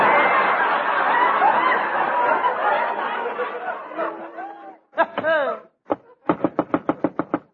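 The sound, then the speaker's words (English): Crowd chatter and laughter fade into loud, heavy blows as someone beats a door in, a few scattered bangs and then a rapid, even barrage of about eight pounding strikes. “This time he beat the door in.”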